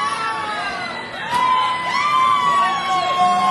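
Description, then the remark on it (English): A loud crowd at a band's performance cheers and whoops continuously, many voices rising and falling in overlapping yells and shouts, sustained throughout. “I know we're a small, quiet crowd here.”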